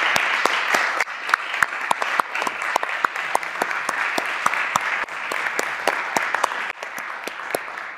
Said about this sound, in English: So I think we should thank them very much also for the support that they received from the staff at Perimeter Institute. So why don't we start by clapping?